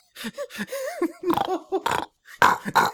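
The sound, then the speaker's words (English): A man's voice imitates a pig having sex, producing a rapid run of short, throaty grunts and snorts with rising squeals, loud, lasting a few seconds. “Do your impression of a pig having sex now, and let's see if it sounds like a train.”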